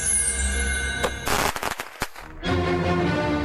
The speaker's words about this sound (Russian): а где фейерверк будем запускать? А давай прямо здесь, у подъезда. Вон сколько зрителей много.